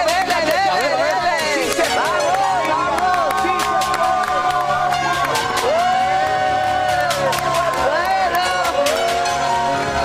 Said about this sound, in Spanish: Déjeme de aquí y este caballero empieza a correr, lo despedimos con un fuerte aplauso, le deseamos toda la suerte del mundo.